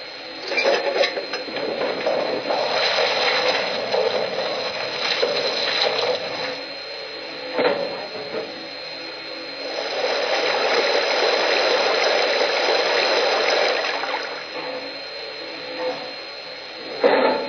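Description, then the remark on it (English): A steady, loud rush of water pours into a locomotive's water tank as it is filled to the top, a broad hissing gush that swells and dips slightly for the whole stretch, with no one speaking. “I filled the tank to the top and I didn't get my shoes wet.”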